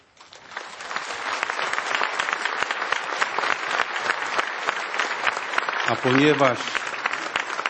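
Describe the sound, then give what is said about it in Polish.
A large crowd applauds the Pope steadily, a dense, even patter of clapping that holds for several seconds, with a brief voice rising over the noise near the end. “A ponieważ same oklaski dla papieża nie wystarczą, tylko potrzebna jest modlitwa za cały Kościół”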